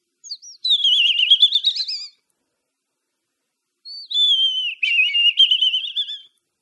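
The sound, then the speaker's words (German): A person whistles an imitation of robin song: two high, warbling phrases of rapid trills and glides, separated by a pause of about two seconds, with no talking. “Rotkehlchen-Imitation hingegen vielleicht schon.”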